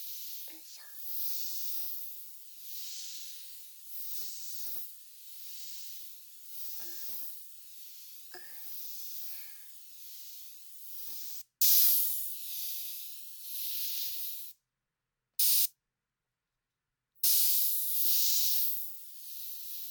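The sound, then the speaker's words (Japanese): Steady hissing of a carbonated mist spray sprayed onto the face along the facial lymph lines, from chin, mouth side and nose side toward the ears, running in pulsing bursts with brief pauses and two clean silent gaps, quiet breathy sounds underneath. “炭酸を肌に浴びると血行が良くなって、栄養が体の隅まで行き渡るようになる。”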